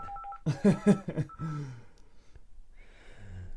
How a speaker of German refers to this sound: Musst du ans Telefon gehen? Hey, lass das klingeln hier.